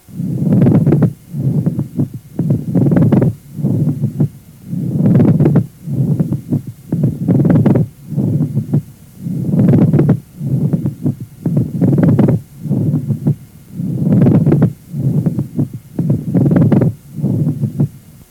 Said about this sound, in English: This is a creaking, grating sound, loud, superficial, and present in both inspiration and expiration.